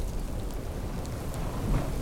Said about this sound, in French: Nous voilà, nous voici. En pleine tempête.